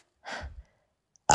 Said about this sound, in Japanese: ごめんなさい。今になってゲップが、出る。